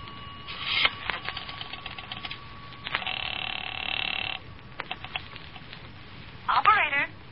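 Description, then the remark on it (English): A telephone being dialed in a phone booth at a filling station, for a call to Long Beach: a run of sharp mechanical clicks and rattles over a thin line hum, with a brief burst of noise in the middle and a faint voice near the end. “I'm going to make a telephone call. That phone booth in the filling station.”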